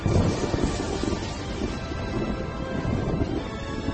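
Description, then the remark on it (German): A rumbling storm sound effect of thunder and lightning, a continuous low roar with gusty, wind-like noise sustained for several seconds, fairly loud, with no voices. “Sein wütender Schrei ließ die Berge erzittern. Blitz und Donner kamen vom Himmel.”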